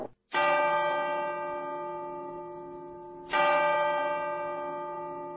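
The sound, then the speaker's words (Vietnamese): A clock strikes ten o'clock with deep, resonant bell tones: two loud strokes about three seconds apart, each ringing on and slowly fading, with no voices. “Đồng hồ đã gõ 10 giờ.”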